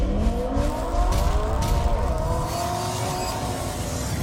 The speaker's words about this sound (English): Rev up your engines!